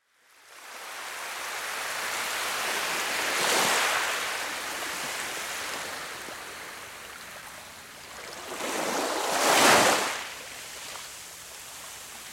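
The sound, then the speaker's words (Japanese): Ocean waves of the spring sea wash onto the shore with a steady hiss of surf, two larger waves swelling and breaking a few seconds apart, moderately loud, with no voices. “海のすぐそばだったんだね。”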